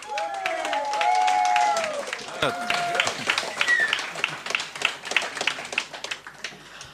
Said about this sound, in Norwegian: Gi en god applaus.